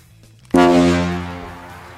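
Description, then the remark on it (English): A quiz buzzer horn, played in honour of Prince Charles launching his boat, sounds one loud, abrupt blast after a brief quiet moment, a low, brassy, harmonic-rich tone that holds steady and then slowly fades away. “Gav, your buzzer, please.”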